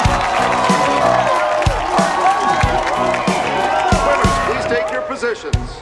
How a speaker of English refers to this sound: Both the York Academy and McDonald Hall fans cheer their teams.